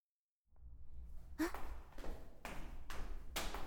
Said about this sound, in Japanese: ん？足音？こんな夜遅くに、もしかして噂を聞いた子たちが来てしまったのかしら。